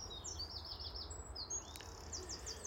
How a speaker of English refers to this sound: There's also lots of birds. Let me not disturb them. Can you hear them?